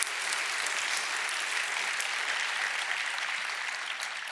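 A church audience applauds steadily during a service, honouring pastors who have served faithfully, many hands clapping in a dense, sustained wash of sound that holds at an even level throughout, with no voices standing out.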